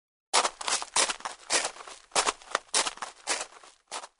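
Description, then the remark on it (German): A man's footsteps in a steady walking rhythm, about seven crisp, scuffing steps in a row, fairly loud and with no voices. “Da hört er Schritte.”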